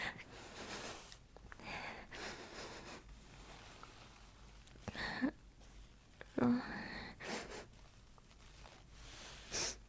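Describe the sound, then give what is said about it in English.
Quiet, close-up sniffing of a boy: a series of short breathy inhales at an uneven pace, with faint rustling and soft breaths between them. “I don't know if it's weird that I'm sniffing you.”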